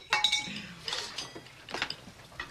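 Dishes and cutlery rattle and clink in a series of sharp, bright bursts as a table shakes, with short jangling pulses recurring irregularly over a couple of seconds.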